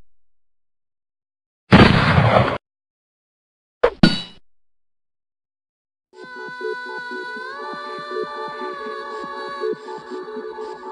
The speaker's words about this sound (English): This is a gun. I can kill you, like, instantly. I can splice you and... Bang. Shoot you in the head.